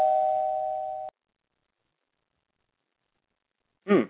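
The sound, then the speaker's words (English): A doorbell gives a single steady electronic tone lasting about a second, then cuts off abruptly. Silence follows until a short burst of voice at the very end. “I guess someone rung the doorbell.”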